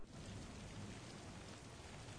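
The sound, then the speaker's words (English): Steady rain pours down in a dense, even hiss with no breaks, heavy patter and a low rumble underneath, fairly soft overall and with no voices. “Dude, what are you doing in the rain?”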